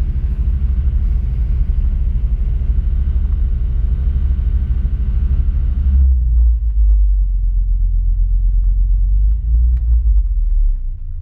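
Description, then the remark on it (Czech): A car engine runs steadily with a low, even rumble and rich harmonic hum; after about six seconds the upper tones drop away, leaving a deeper, smoother idle drone. No talking. “To je lahoda slyšet ten motor. Jak si krásně brumlá.”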